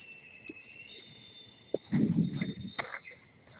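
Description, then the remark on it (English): A GE wind turbine runs with a steady, thin mechanical whine throughout, joined midway by a sharp knock and a burst of low rumbling, thumping movement. “This is a GE wind turbine.”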